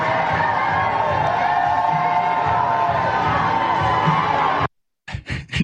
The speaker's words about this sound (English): cheering as the bus drives away. Yes, they're on a big bus tour this weekend.